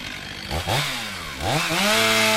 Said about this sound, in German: Wir stehen hoch oben in den Höhen des Kellerwaldes in einem alten Buchenbestand. Es liegt Schnee auf dem Waldboden und es weht ein ordentlicher Wind. 2 Waldarbeiter zerschneiden gerade mit einer schweren Motorsäge eine umgestürzte Buche,